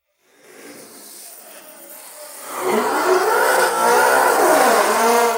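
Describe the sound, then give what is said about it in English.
A race car engine starts as a low rumble, then roars louder and revs up and down in strong, rising and falling sweeps. It is loud, with no voices. “High car sounds spicy, dude.”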